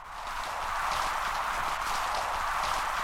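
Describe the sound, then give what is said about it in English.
Underwater reef noise recorded with a hydrophone an hour or two after sunset: a dense, steady crackle of countless tiny snapping shrimp pops and sea urchin scrapes, hissy and bright, holding an even level throughout with no voices. “This is just sound recorded off of a reef about an hour or two after sunset. And the noise is mostly sea urchins and snapping shrimp.”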